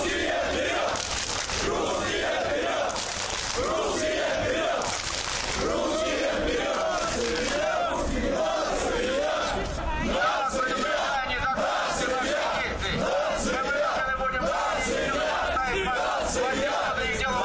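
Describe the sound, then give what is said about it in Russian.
A large crowd of skinheads, lined up in three ranks and waving flags, chants slogans in unison, including shouts about the nation and homophobic slogans: loud massed voices shouting rhythmic, repeated phrases that hold a steady intensity for the whole stretch, with no pause or quiet moment. “Не убедив милицию, что им нужно пройти к клубу, бритоголовые построились в три шеренги и начали скандировать лозунги и размахивать флагами.”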